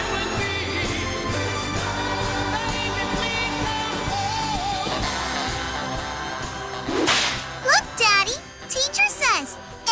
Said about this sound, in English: A whip cracks, an angel gets his wings.